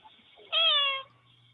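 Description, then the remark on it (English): A cat gives one clear, drawn-out meow lasting about half a second, loud against an otherwise quiet background with a faint low hum, recorded by a motion-detector camera. “It was already recording before the cat jumped up.”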